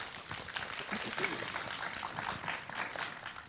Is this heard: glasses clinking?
no